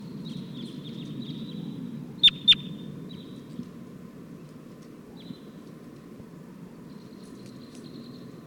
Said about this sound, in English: Pointed at 256, the wild flock is calling loud now. Still perched.